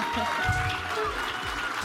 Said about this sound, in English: That is the sound of everyone clapping for us at the Sphinx Theater in the beautiful Sheraton in downtown Seattle.